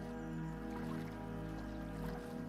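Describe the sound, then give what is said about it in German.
A boat slides into cool lake water at a lake among pine trees, with a soft, continuous swish and gentle trickling, steady, over a constant low humming drone. “Du fährst ins Wasser.”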